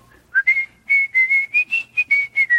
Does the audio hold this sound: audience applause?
no